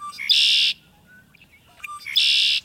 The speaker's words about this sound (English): How about a solo from the red-winged blackbird?